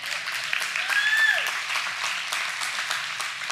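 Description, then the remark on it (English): Audience applause for the parents in the house, a dense steady wash of many hands clapping at fairly even loudness, with a brief whistle rising then falling partway through. “Clap it up for parents in the house.”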